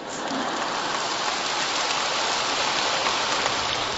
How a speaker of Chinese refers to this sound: 我还没讲呢，你们先鼓掌了，肯定很好。